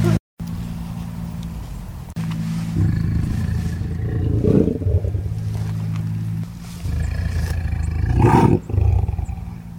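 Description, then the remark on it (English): A big cat roars by a fence in a series of deep, rumbling bellows that swell and fade over several seconds, loud and resonant with breathy grunts between. “we want you to roar again”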